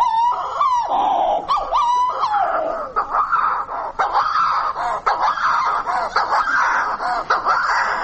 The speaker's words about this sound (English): It's terribly good at imitating camels. Yes, it is. Just to help you, I can tell you that its Latin name is Puffinus puffinus, or Priscilapa.